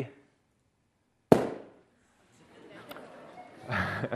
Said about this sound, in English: Okay, well, that was a bit rubbish, really, wasn't it? Okay. In fact, all that happened there was the balloon just burst. Oxygen itself does not burn.